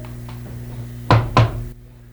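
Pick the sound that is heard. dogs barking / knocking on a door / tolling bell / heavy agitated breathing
knocking on a door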